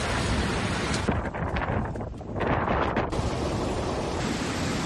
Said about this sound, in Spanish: Ha sido una jornada marcada por el temporal, un día complicado. Gandía ha registrado las mayores tormentas de Valencia y se han acumulado más de 350 litros por metro cuadrado.